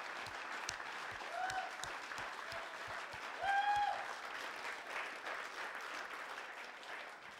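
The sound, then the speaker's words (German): An audience claps steadily and densely for several seconds for a family on stage, a sustained wash of applause with a few brief whistles rising above it midway, then easing slightly toward the end. “Geben wir ihnen doch einen herzlichen Applaus auf der Bühne.”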